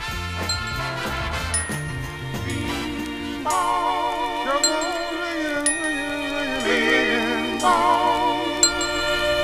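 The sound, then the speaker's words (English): Bells ring out amid a dense, sustained musical backdrop with wavering, vibrato-like tones, their bright chimes recurring every few seconds at a steady, moderate loudness. “Bells are ringing.”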